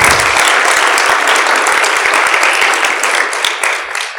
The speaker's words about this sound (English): Wow, let's give them a clap.